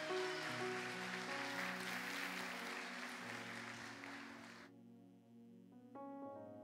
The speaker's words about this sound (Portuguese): Você pode aplaudir a ele em nome de Jesus?